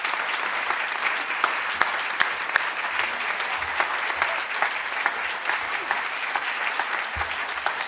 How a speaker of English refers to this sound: Can I just get one more round of applause for all of our readers tonight? Thank you so much.